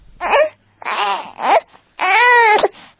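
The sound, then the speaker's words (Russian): A newborn baby cries in three loud, high-pitched wailing bursts separated by short gasping pauses, the last one longest and most sustained, with no talking. “По новейшим прогнозам Фонда Организации Объединенных Наций в области народонаселения, крик новорожденных в Грузии и, соответственно, голоса населения через 40 лет будут слышны на миллион раз меньше.”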